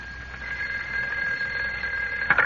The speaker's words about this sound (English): A few days later, as Clark Kent and Jimmy Olsen return to the Daily Planet, the phone rings in Kent's office.